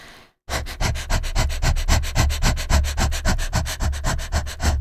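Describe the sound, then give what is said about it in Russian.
A person demonstrates dog-style breathing, short inhales and exhales with the diaphragm used to ease the urge to push in labour: rapid panting, short sharp breaths repeated steadily about five per second after a brief silence, breathy and fairly loud, with no talking. “Это короткие вдохи и выдохи диафрагмой.”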